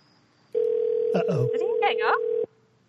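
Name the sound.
telephone tone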